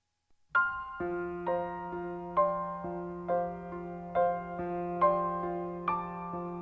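A jazz piano trio opens a tune, the piano playing bright, chiming chords struck at a steady, unhurried pace over a sustained low bass line, clear with no voices.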